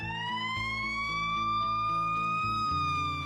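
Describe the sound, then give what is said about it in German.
A loud siren of a US ambulance wails with a steady rising tone over a pulsing, blaring horn pattern, continuous throughout with no talking. “So klingt der Krankenwagen in den USA.”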